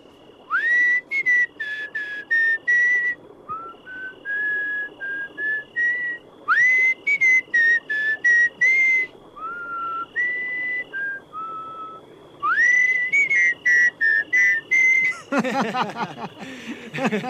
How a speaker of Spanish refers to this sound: Yo soy Arlequín. Hago esta pirueta y silbo como un violín.